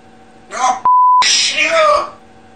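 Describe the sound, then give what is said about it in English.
A parrot mimics a heated human argument in shrill, strained, voice-like shouts, cut in the middle by a steady high censor bleep, then another loud outburst. “The parrot just starts over restating just all this.”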